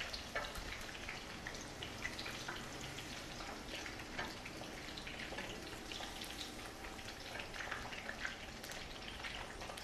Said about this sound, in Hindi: हाँ जी, इसमें ये जो हमने कैप्सिकम जो लिए थे ये सिर्फ हमने एक दफा इसमें से पकाने नहीं है, ये बस इस तरह ओके बस ये हाँ। जी और साथ ही निकाल लिए, ज़्यादा नहीं, बस सिर्फ ऑयल में सिर्फ डालना है और गर्म ऑयल में से निकालना है।